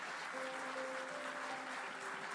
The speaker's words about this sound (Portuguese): Louvado seja o nome do Senhor. Dá um aplauso grande ao Senhor.